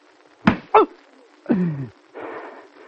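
Two sharp lashes of a riding whip on a man with his shirt taken off land in quick succession, followed by a short pained groan and a soft rustling shuffle.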